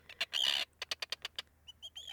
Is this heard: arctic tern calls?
yes